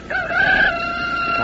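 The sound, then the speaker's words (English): A rooster crows, a strident, sustained cock-a-doodle-doo with a bright, wavering high pitch that holds steady and then trails off, heard alone without any talking. “Well, lots of country folks still depend on this alarm clock to get them to rise and shine.”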